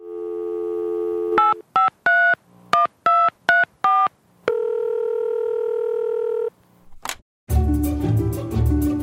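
A steady dial tone gives way to a quick run of about eight touch-tone beeps, then a long ringback tone, a brief click, and a burst of louder noise at the end, as the first caller of the day is connected to a radio call-in show. No one speaks.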